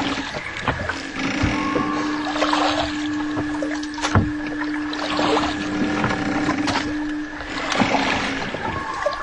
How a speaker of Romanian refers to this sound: De cât timp vâslești la barca asta?